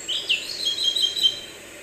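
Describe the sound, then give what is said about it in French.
Birds chirp and twitter steadily at close range near tall poplar trees, a busy overlapping chorus of high, thin calls with a soft breezy hiss of wind blowing in the poplars beneath them and no one speaking. “Là, on est quand même près des oiseaux, on n'est pas très loin.”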